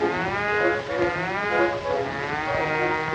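A bee's buzz hums steadily for about three seconds, a low, reedy drone that swells and dips slightly in loudness, with no voices over it.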